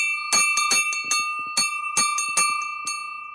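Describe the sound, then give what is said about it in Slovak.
A small bell at a wayside shrine bearing an old IHS inscription rings with a rapid, slightly uneven series of about ten clanging strikes, each leaving a bright, sustained metallic tone that slowly fades at the end. “Páči sa mi tu pri sveteničke, že je ešte taký starý nápis IHS a ešte tu máme aj zvon.”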